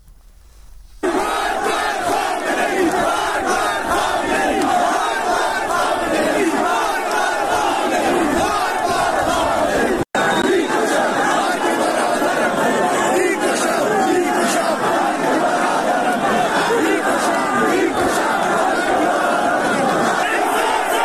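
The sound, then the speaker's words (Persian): A large crowd of protesters in Zahedan, Sistan and Baluchestan, Iran, chants and shouts together in the city's streets, a dense, continuous roar of many voices that stays loud throughout, with a brief cut partway through. “این صدای مردم زاهدان هست در خیابان‌های این شهر که تظاهرات کردن، دست به اعتراض زدن.”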